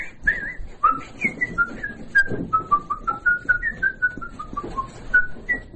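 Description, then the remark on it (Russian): A person whistles a lively melody of many short, clear notes that rise and fall in quick succession, fairly loud, with no talking. “Что-нибудь насвистываю.”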